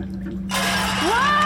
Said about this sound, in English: Oh, come on, Stag, before the rest of the ship comes crashing down.